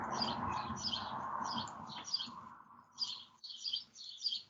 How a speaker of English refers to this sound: Oh, those are Rachel's birds. They're my birds.